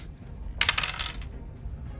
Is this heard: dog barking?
no